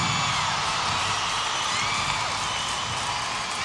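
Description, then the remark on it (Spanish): A crowd applauds steadily for several seconds, a dense, loud wash of clapping with whoops and shouts of cheering mixed in, holding an even level throughout. “obviamente el aplauso que se oiga bien, por favor, un aplauso.”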